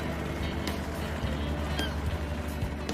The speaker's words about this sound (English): the flat-bottomed boat heads out under a big sky into the open reaches, churning gray water in its wake.